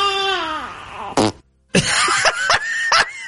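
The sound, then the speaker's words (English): A loud fake fart sound effect: a long descending squeal, a short pause, then a wet, gurgling, sputtering stretch with several bubbly bursts. “Get some gurgles in there. Those are milk farts.”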